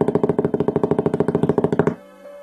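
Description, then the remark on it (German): A fast, steady drum roll of evenly spaced beats rattles loudly for about two seconds, then stops abruptly, leaving only a faint hum. “pass auf, Trommelwirbel.”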